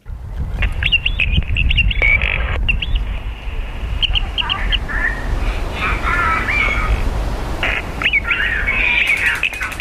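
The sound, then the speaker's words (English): Electronic birdsong from For the Birds, a site-specific light and sound installation in a patch of woodland outside Brighton after dark, plays as repeated high chirps, trills and squawks in scattered bursts, layered over a steady low rumble with faint, indistinct voices underneath. “It includes electronic bird song, video installations and lighting effects.”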